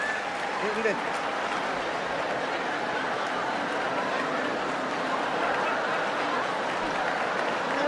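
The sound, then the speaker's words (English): Sustained audience applause fills the whole stretch, a dense steady wash of clapping at even loudness, with a brief murmur of crowd voices near the start. “He's about to say it, and he's like, I got to wait for them to settle down. Wait for the applause.”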